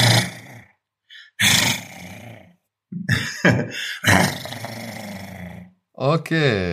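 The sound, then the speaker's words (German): A person growls like a dog, several rough, throaty bursts with short pauses between, ending in a rising, strained snarl. Fairly loud, with no other talking. “So, und jetzt knurre ich. Ich kann nämlich sehr überzeugen, wie ein Hund knurren.”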